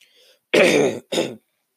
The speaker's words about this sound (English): Yes, get the delicious sound of me coughing directly into the microphone where it sounds beautiful.